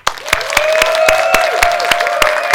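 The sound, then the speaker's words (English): An audience in a church claps enthusiastically for the creative people present, in a steady, rhythmic beat of loud sharp claps, roughly three to four per second, over a sustained high tone like a held note or whistle. “I want us to give an enthusiastic clap for some of the creative people in here, that as we clap, more creativity would be released in the church.”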